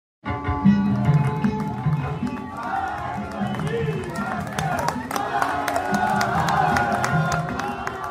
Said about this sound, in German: Die Hochzeitsgäste jubeln, als die Braut den Hochzeitssaal betritt.